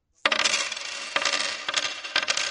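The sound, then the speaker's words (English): Metallic clinks and jingles as a sea captain puts gold coins down on the hard surface of a bar, a bright initial clatter followed by a few more ringing taps and settling jingles, clear with no voices. “He put some gold coins on the bar.”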